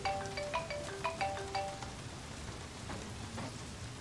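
Steady rain hisses across the whole clip, with scattered droplet taps and a few brief tonal chirps early on. No one speaks, and the patter stays fairly even throughout.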